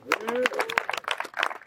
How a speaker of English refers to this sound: Appreciate y'all coming out. Happy New Year. Y'all made the 2024. Clap it up.